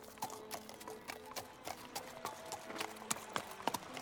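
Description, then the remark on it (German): Horse hooves clip-clop steadily at a walking pace, a regular series of sharp knocks, with faint background noise and no talking. “Die Elfin Eranella führte das Pferd, während Xala als Windling ausreichend Platz hinter der Elfin findet.”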